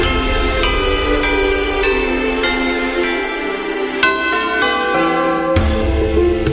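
Church bells ring loudly and steadily, with strikes about every half second layering over long, shimmering tones that overlap and linger. No voices are heard.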